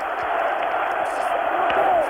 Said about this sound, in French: Il attend que la foule se calme, il demande le silence. Il paraît très ému, le chef du gouvernement français. Entendez la foule qui l'acclame, de Gaulle, de Gaulle.